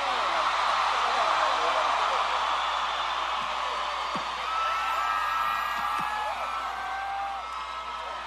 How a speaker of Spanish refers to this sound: Fuerte el aplauso por estos grandes compañeros de ruta.